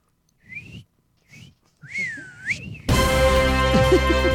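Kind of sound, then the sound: human body sound, person whistling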